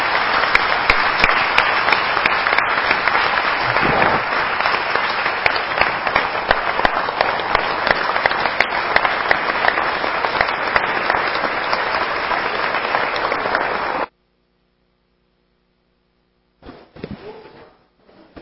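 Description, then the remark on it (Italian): Loud, sustained applause from a town council session in memory of Antonio Chiappini, who died a few days earlier, dense overlapping claps for about fourteen seconds, then a sudden cut to silence before a brief burst of sound returns at the end. “Un grande applauso, grazie.”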